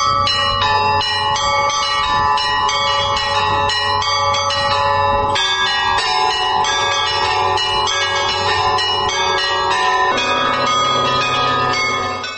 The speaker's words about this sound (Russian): У меня же тут как бы набор, какие-то были колокола, какие-то старые, какие-то новые, какие-то прибавились, то есть разнобой. Но я их так сделал, что они сейчас у меня вместе спелись, сроднились все вместе, как на пианино, 88 звуков.